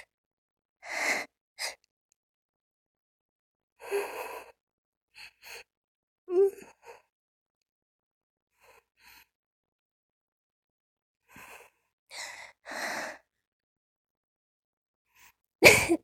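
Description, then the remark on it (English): Several short, breathy coughs from a person during masturbation come in scattered bursts with quiet gaps between them. A sharper, louder burst lands right at the end, and no one speaks. “That mid-masturbation cough moment, it's always the best, isn't it?”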